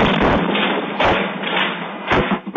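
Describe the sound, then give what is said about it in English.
An explosion at the TPC Group chemical plant in Port Neches near Beaumont, around 1 a.m., picked up by a security camera: a loud, muffled roar of rushing noise with several heavy thuds, recorded with dull, low-fidelity sound and no voices. “Security cameras captured the explosion.”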